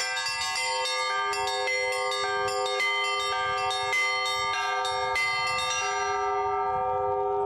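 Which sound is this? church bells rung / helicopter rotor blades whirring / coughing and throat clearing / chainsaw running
church bells rung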